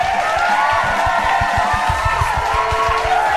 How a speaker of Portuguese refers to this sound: Muito obrigado pelos aplausos, muito obrigado. Chega, caralho, chega de aplausos, pelo amor de Deus.